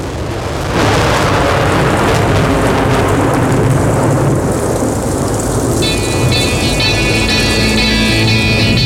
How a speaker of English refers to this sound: And look out, we've got some rain. Luckily, it's in amongst the flowers.